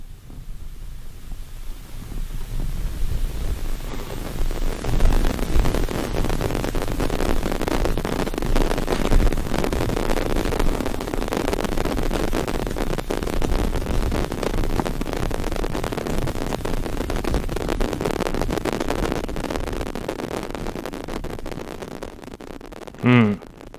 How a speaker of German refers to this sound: Nun ja, das ist Rauschen.